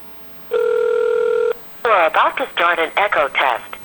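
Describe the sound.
A Uniden cordless telephone, with its base plugged into the phone system on the Free World service, gives one steady, one-second electronic ring, loud, after a number is dialed, and then a man starts talking right after it.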